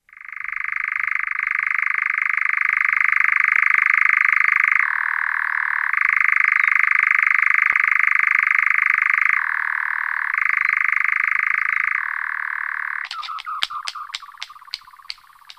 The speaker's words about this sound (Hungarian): hanem egy pirregő hang, de majd a végén fogjuk hallani a hangnak, hogy mikor a madár befejezte a pirregést, elrepül és a szárnyait is összeveri a teste fölött, ennek is majd halljuk a hangját. Akkor jöjjön a lappantyú hangja.